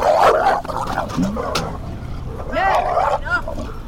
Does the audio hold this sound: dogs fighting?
yes